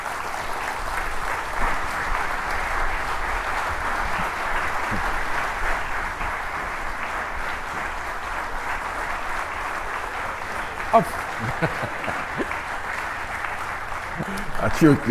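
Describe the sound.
Steady audience applause as a guest, the grandson of Jesse Brown, is brought out on stage, lasting about fifteen seconds, a dense wash of clapping that stays loud and even, with a few brief voices surfacing near the end.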